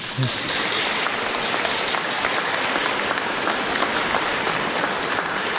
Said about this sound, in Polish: To już wszystko wiemy i teraz gorące oklaski dla Was.